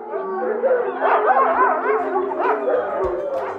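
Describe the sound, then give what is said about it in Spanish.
Several dogs bark and yelp almost continuously as they help sheep return to the fold in the sierra, their wavering, whining cries overlapping for a few seconds. “Los dueños saben que las ovejas regresarán solitas al redil, ayudadas por los perros.”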